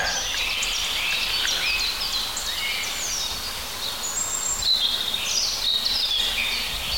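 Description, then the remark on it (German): A European robin sings in a continuous stream of high, thin, warbling phrases and trills, clear against a dense background chorus of other birdsong with no voices. “Schöne Rotkehlchen.”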